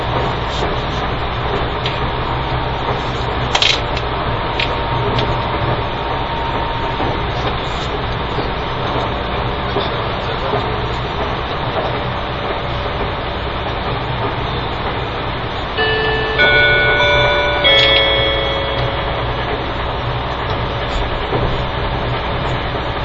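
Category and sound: vehicle, passenger train running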